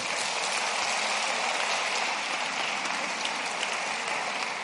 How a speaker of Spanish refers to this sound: Give the Lord a big hand clap then. Podéis aplaudir si queréis.